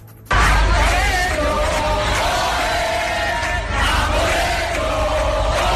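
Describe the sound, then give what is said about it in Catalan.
A large crowd at Andalusian police stations such as Huelva's chants the rallying cry "A por ellos" loudly in unison in the week before 1 October, voices blending into a dense roar that rises and swells, with a brief dip midway before surging again. “avui cal recordar, anirem recordant-ho perquè d'aquí a una setmana fa 5 anys de l'1 d'octubre, però és que avui fa exactament 5 anys que començàvem a sentir aquell crit que es va fer famós.”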